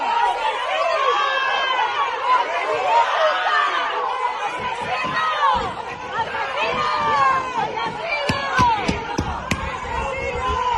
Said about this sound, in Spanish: Lo que escuchamos son golpes contra el propio coche.